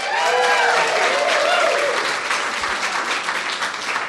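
An audience breaks into a steady round of applause, dense overlapping clapping that stays loud throughout, with a few faint voices and whistle-like tones mixed in early on.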